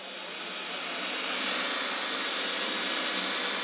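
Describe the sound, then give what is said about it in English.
A steady, high-pitched whirring whine of drone propellers holds at constant loud volume, rising slightly at the start and then sustaining with no voices. “Two vendors at this year's Farm Technology Days are selling drones that look a lot like remote-controlled helicopters.”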